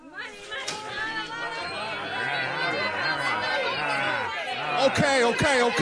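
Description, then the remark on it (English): A restless crowd talks all at once in a dense, agitated babble of many overlapping voices, steady and fairly loud throughout, with a few sharper raised voices toward the end. “Let's just see that crowd out there.”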